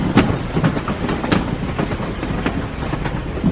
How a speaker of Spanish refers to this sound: Venga, tenemos que abordar el tren. Pero este es el tren presidencial. Sí, Cárdenas lo puso a disposición para traerlo de Tampico, Tamaulipas, a la capital mexicana.